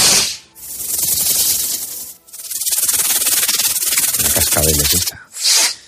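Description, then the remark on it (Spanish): A snake hisses in three loud, airy bursts, two long drawn-out hisses followed by a short final one, with no voices. “pero ¿qué me dices de las serpientes? ¿Te asustan las serpientes?”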